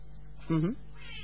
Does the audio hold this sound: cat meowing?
yes